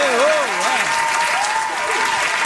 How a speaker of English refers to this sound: First winner today. Way to go, buddy. Awesome. Way to go. You can give him the applause now.